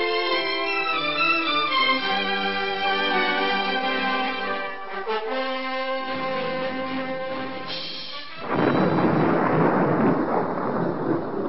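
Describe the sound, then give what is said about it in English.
Dramatic orchestral music from the radio drama High Adventure, in the story 'The Cruel Sky', plays for several seconds. It then gives way to a loud rumble of rolling thunder from a storm, with a rushing, stormy roar that continues to the end. “Looks like we're in for a bad storm.”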